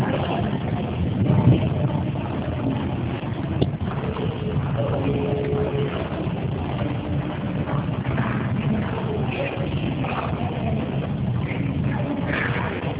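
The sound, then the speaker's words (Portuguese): Continuous rushing car noise, a steady low engine rumble mixed with wind-like hiss, heard as heavy hiss through a narrow, muffled group audio-call line. It holds level the whole time, with no one speaking. “Gente, tem alguém que está na áudio, de carro, com vidro aberto, alguma coisa assim? Está muito chiado.”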